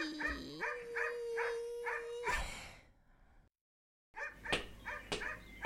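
A small dog, Toby, yaps repeatedly in a quick, even rhythm, fairly loud, goes quiet for about a second, then barks again in another rapid burst. No one speaks.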